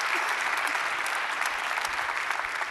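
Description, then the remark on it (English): A large church audience in Centerville claps steadily to welcome each other across its campuses, the dense applause holding an even, loud level for a few seconds with no break and no voices standing out. “And so by applaud, will you just welcome each other in all the campuses, Springboro, Northmont, Classics, right here in Centerville.”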